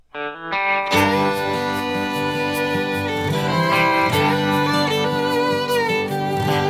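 A country song starts with a brief soft lead-in, then a full band enters after a second and plays steadily and loudly with layered, sustained chords and no singing yet.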